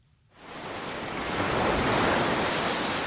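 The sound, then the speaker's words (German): Pacific Ocean waves break on the beach of Tomakomai, a city on Hokkaido, Japan's northern island: a broad rushing surf that swells in after a brief quiet start and stays loud and steady, with a hint of wind noise. “Pazifikwellen schlagen an den Strand von Tomakomai, eine Stadt auf Japans Nordinsel Hokkaido.”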